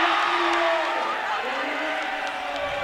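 basketball crowd cheering

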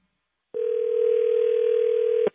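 telephone ringing

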